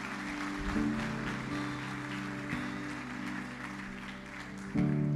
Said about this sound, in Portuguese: Se você crê, diga amém e dê uma salva de palmas a Jesus, porque Ele é bom.